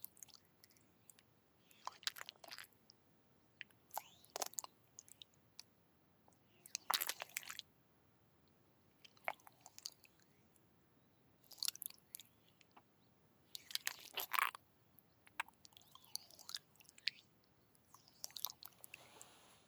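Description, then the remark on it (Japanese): Massage oil containing a little kiwi is rubbed onto shoulders in slick, wet, squishing strokes that come in irregular bursts, intimate, with quiet pauses between and no voices. “肩たたきはこれくらいにして、肩の方にもオイルを塗らせていただきますね。”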